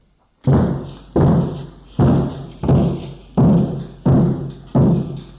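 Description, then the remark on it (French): A man slams his shoulder into a bolted door again and again, trying to break it down: about eight heavy, booming thuds at a steady, quick rhythm, each loud and resonant with a short ringing decay, no voices. “Il va cogner la porte avec son épaule.”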